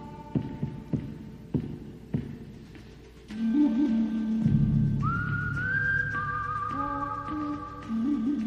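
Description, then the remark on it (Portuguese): A lone whistled melody in a spaghetti-western style rings out over a low drone, preceded by a few slow, thumping beats like a heartbeat, with no talking. “ele instituiu a questão do assobio, né, que não é necessariamente uma música, como um elemento sonoro associado ao Velho Oeste, que é uma coisa genial.”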